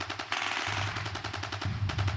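Rapid bursts of machine gun fire mixed with sharper rifle shots, a steady rattling volley at fairly close range with a low rumble underneath, no voices.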